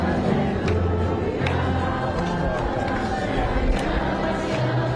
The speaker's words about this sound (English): The crowd quietly singing Alleluia.